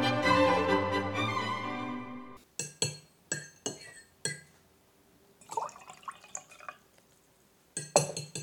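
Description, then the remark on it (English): A ringing chime fades out, then a few sharp china clinks give way to a brief splashing pour of tea into a cup, followed by another clink. “More tea, Mr. Bell?”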